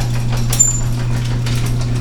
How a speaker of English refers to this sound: Opening the garage door.